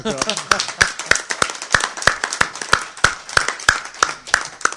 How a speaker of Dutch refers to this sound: En hartstikke bedankt voor de manier hoe dat je dat ons gedaan hebt. Ik wil er toch even een applaus voor.